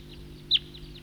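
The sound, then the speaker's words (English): A bird gives a single short, high-pitched tooping note that stands out clearly over a steady low hum, with a few fainter calls in the background. “That's the tooper.”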